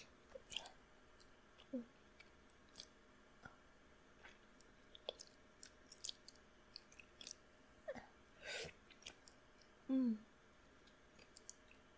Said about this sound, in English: Well, but first, a little bit of the spit that I've been putting to waste by swallowing nervously, gulping like I'm in a fucking cartoon, dude.